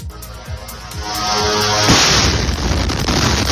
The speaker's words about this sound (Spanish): Mientras tanto, tenemos una noticia de última hora que nos llega desde Israel. Fuerte explosión en Tel Aviv.